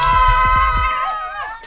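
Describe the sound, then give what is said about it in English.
A crowd of people screams loudly and continuously for the whole moment, high voices blending together, with a few dull low thumps underneath as the noise fades slightly at the end. “I honestly do not understand why the screams sorry, are happening.”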